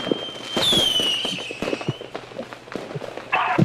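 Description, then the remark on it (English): Fireworks being lit and shot toward the neighbors' house: a shrill whistle that slowly falls in pitch, followed by scattered pops and a burst of crackling near the end, loud. “I'm shooting shit at my neighbors.”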